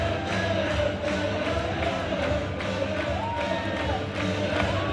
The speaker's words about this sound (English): thousands of people are swaying and cheering as if it were a Saturday night playoff game. And when the Blackhawks score, the madhouse on Madison shakes.